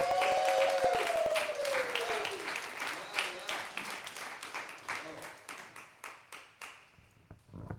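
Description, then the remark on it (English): A crowd bursts into dense applause with a few cheers, then the clapping thins into scattered individual claps that fade out over several seconds. “woman of power who begins all rounds of applause”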